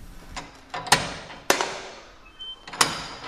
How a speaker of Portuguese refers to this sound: Esta foi uma das portas que se manteve. Este terceiro piso era um piso da prisão, a enfermaria ficaria por cima, e esta porta é uma porta muito pesada. Os antigos presos que aqui estiveram relatam muito estes sons.